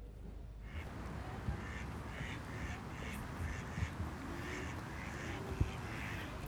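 Ducks quack repeatedly in short nasal bursts over a steady outdoor background, several birds calling at once with no talking.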